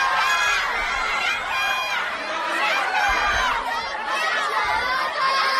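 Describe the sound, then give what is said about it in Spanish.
A crowd of mostly children shouting and cheering at the Spanish national football team's open training session in Las Rozas, a dense, high-pitched wall of overlapping voices that stays loud and steady throughout, with occasional low thumps underneath. “Son niños, fundamentalmente niños, que no han llenado el entrenamiento, pero bueno, se han acabado los gritos aquellos contra Piqué y la polémica que había en los entrenamientos y parece que había ese ambiente infantil,”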